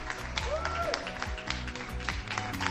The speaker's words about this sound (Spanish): Aquí seguimos aplaudiendo a los sanitarios y a todos los que arriman el hombro en esta crisis del coronavirus